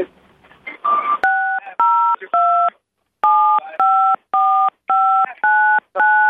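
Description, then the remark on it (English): A brief muffled voice, then about ten touch-tone keypad beeps entering a phone number on a call to radio station 98 KUPD, Arizona's Real Rock: steady two-note tones in a quick even rhythm, with a short pause after the first three. “To better serve you, please enter your phone number.”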